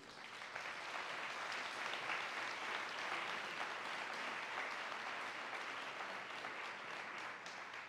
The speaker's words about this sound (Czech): A já už potom potlesku do toho nebudu moc kecat